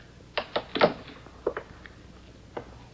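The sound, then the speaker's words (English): A husband knocks several times on a wooden bedroom door: a quick group of three raps, a pause, then two more and a final single knock, sharp, with no one speaking. “Only now their fall peddling trip has been delayed, and it is a very worried husband who knocks on a bedroom door.”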